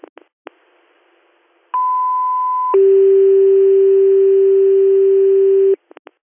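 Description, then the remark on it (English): Radio dispatch paging tones for an ambulance call: after a few static clicks, a steady higher tone holds for about a second, then drops to a lower tone that sustains for around three seconds over faint radio hiss. “ignore your tones.”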